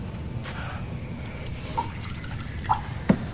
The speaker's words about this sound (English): Catherine walks over to the dresser and refills her glass.